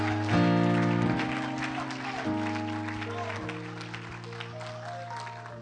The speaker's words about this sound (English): If you love his word as you're seated tonight, give him praise and thanks for it. Lift up a voice, clap your hands. Come on, give him some high praise for the word of God that is forever settled in the heavens.